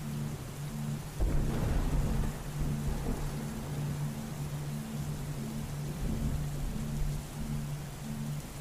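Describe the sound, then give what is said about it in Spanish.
Steady, hissing rain pours throughout while a deep thunder rumble rolls in near the start and another swells later, with a faint low hum running underneath. “En el reino de la naturaleza, cada tormenta es necesaria, es perfecta.”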